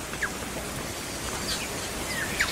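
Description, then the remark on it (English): A handful of faint, brief bird notes, short whistles and sliding chirps, from tuis, an indigenous New Zealand songbird, sound at scattered moments over a steady hiss of outdoor background noise. No one speaks. “And some of the ones that we are most intimate with here are the tuis, which is an indigenous New Zealand songbird.”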